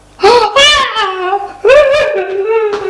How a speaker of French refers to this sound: Elle est défaite, les cheveux en broussaille. Pleure, crie.